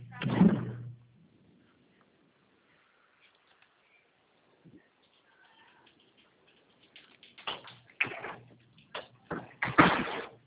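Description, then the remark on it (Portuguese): Doors of consultation rooms being shut and slammed as they are closed up: one loud bang, a quiet stretch, then a cluster of sharp thuds and slams in quick, uneven succession toward the end. “Eu estou batendo aqui, são as portas, tá?”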